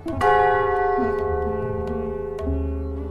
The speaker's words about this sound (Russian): В половине первого ночи Прабхупада снова позвонил в колокольчик.